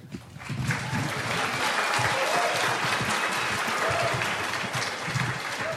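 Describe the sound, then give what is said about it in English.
An audience at a concert applauds high school students in a dense, steady wash of clapping that holds at an even, fairly loud level for about six seconds, with no clear voices rising above it. “For all of that, they should be applauded.”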